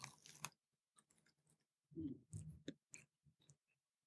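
Crunching and chewing of a crisp spicy snack, a sharp bite followed by a series of irregular, moist crunches and mouth sounds over a few seconds, with no talking.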